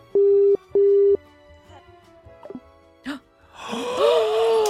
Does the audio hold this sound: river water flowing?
no